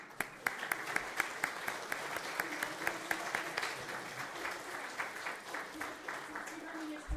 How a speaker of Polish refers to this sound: Coś zrzucił tutaj, był taki desant, spadł z nieba i tym bardziej brawa dla was.